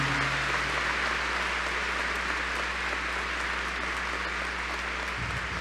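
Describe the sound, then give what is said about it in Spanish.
A crowd of pilgrims applauds steadily in honour of the Virgin of Guadalupe during a pilgrimage, a dense wash of many hands clapping at an even level for several seconds, with a low hum running underneath and no speech over it. “Aplauso fuerte a nuestra Madre Santísima.”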